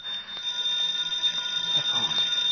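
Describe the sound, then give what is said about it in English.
A telephone rings with a continuous, rapid metallic bell trill, fairly loud and sustained for a few seconds, with no voices present. “The phone.”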